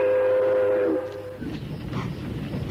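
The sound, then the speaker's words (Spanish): An old 1942 Santa Fe steam train sits idling at Venta de Baños station, stopped to take on water: a steady, multi-toned whistle sounds for just over a second, then gives way to a loud, rough hiss of venting steam with uneven puffs, no voices. “Hemos parado un momento en la estación de venta de baños para recargar agua en nuestra vieja Santa Fe del año 42.”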